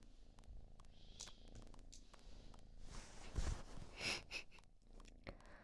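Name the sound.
small pet snoring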